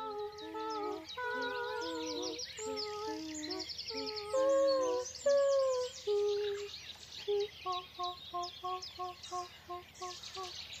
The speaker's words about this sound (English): As the birds sang, they sang back.